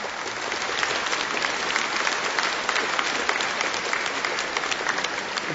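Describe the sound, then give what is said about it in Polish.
An audience applauds steadily for several seconds, warmly welcoming guest priest Robert Nurski to the community, a dense, even wash of many hands clapping at a constant level with no voices breaking through. “Witamy gorąco klaskami księdza Roberta.”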